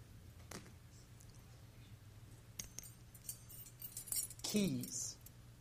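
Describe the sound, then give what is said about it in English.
Keys jangle with a few scattered metallic clinks, then a brighter, busier burst of jingling near the end, against a low steady hum with a brief voice-like sound. “Keys. You know, keys have been a symbol in the church for a long time.”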